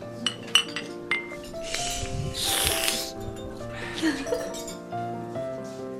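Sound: cups clinking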